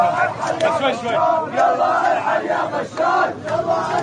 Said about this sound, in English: This month, as this video shows, a crowd of hundreds of demonstrators chanted in unison in Sweida's main square.